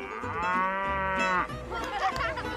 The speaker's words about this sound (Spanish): Dice mu. Mu. Mu. Mu.